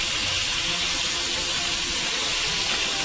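A steady sizzle of fish being half pan-fried in hot oil in a pan over medium heat, the pan turned so oil covers the whole fish, a dense crackling hiss that holds constant for the full few seconds with no voices.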